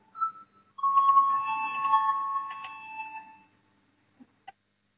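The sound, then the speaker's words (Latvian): A brief high chime is followed by a sustained, ringing electronic bell tone with steady harmonics lasting a few seconds, then fading, with two faint clicks after. No one speaks. It is a parliament voting bell, rung to call a vote on a faction's proposal. “Lūdzu, zvanu, balsosim par trešo frakciju saskaņas priekšlikumu.”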